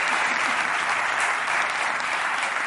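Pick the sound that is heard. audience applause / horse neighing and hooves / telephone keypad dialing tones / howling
audience applause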